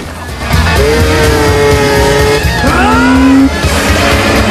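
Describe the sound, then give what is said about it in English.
A skidoo snowmobile carrying two riders revs loudly throughout as it chases another rider, its whining pitch climbing in two rising sweeps and holding high, with a rough mechanical rumble underneath and no voices. “Hal is now pursued by Chuck and his friend Steve, who are sharing a skidoo.”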